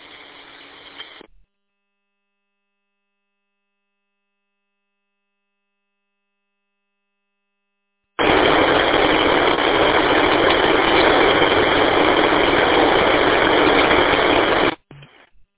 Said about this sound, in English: Well, whatever station that was just pure static. Yeah, I could hear kind of a voice in the background, but it's all static.